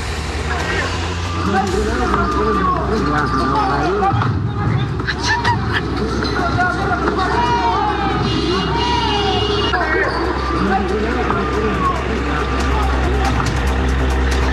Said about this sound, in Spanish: Escuchamos parte de lo que fue este ambiente protagonizado por parte de estos encapuchados quienes bloquean el tránsito y posteriormente lanzan estos elementos combustibles.